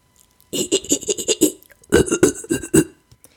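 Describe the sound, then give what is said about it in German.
A person imitates an ape's laugh to show the difference in mouth shape: first with a wide mouth opening, a fast burst of panting, breathy hoots with open-mouthed brightness; a brief pause; then with a round mouth opening, a second burst of rounder, hollower hoots. “Ich habe mal versucht für euch das nachzumachen, wie ein Affe lacht mit einer breiten Mundöffnung und danach gleich mit einer runden, wie das klingt, der Unterschied.”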